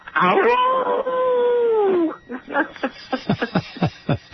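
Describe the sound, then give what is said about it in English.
A person imitates a coyote howl, one long wavering vocal wail lasting about two seconds that slowly falls in pitch, followed by quick chattering speech-like sounds. “You're going to howl at Coyote.”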